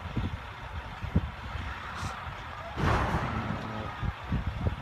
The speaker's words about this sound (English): Oh, look at this truck coming right in. Can't do anything. He can't do anything.